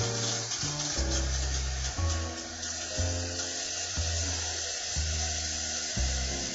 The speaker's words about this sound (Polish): Czajnik z wodą, mówisz. Dobrze, będzie czajnik z wodą. Słyszycie, słuchacze? Muszę stawić czajnik z wodą.